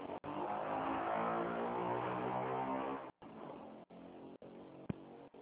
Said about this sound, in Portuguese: Alô, podia repetir? Passou uma moto aqui barulhenta, não consigo escutar nada.